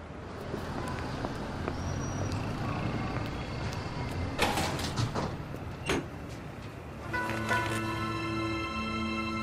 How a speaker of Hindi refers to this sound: आप अंदर जाइए, मैं दरवाजा बंद करके आता हूँ।